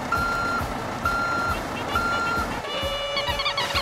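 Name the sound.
truck arriving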